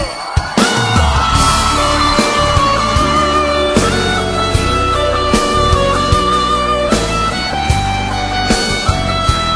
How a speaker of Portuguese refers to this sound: Cadê o grito dos apaixonados aí?